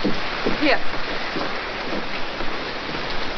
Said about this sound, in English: It was all right, and the rain hammering like that on the window made it good to be in there.